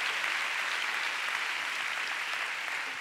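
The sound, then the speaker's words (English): A large crowd claps steadily to give the Lord a big clap, a dense, continuous wash of applause at even loudness for several seconds with no voices standing out. “Oh, you want to clap? Let's give the Lord a big clap.”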